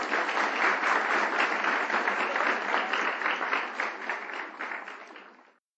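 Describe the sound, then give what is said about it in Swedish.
A crowd applauds to welcome a guest, with steady, dense clapping that holds loud for several seconds, then gradually thins and fades out near the end. No voices are heard. “Ska vi hälsa välkommen med en applåd tycker jag.”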